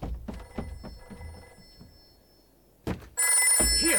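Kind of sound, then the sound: household object, telephone bell ringing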